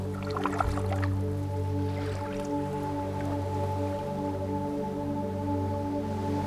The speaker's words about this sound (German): Und direkt am Strand steigen wir mit den Füßen ins Wasser. Das Wasser geht uns bis zu den Knien. Und wenn eine Welle kommt, eben bis zu den Oberschenkeln.